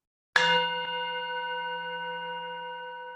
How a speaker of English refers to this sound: I invite you to listen to the sound of my bell.